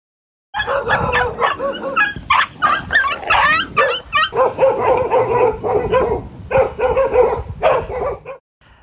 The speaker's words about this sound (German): Ja, da hatte ich schon ganz schön viel Respekt davor und ich werde euch jetzt mal eine Tonaufnahme vorspielen, wie das dann teilweise auch klingt, wenn du unter so vielen Hunden bist.